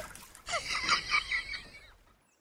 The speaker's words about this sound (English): Yeah, better dunk my hands in the river Styx here and scrub them down. That'll kill any kind of bacteria.